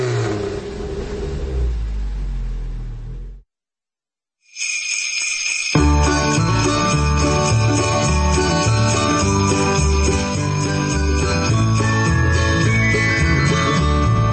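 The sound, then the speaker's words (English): A low, rumbling engine-like roar cuts off abruptly, and after a brief silence loud, bright Christmas music kicks in and plays steadily with a busy, rhythmic instrumental arrangement. “Christmas music. I said, get Christmas music.”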